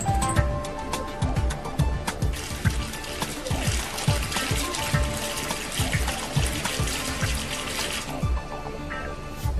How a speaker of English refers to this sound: The first ingredient into the pot is a mix of water and vinegar. This forms the basis of the sauce.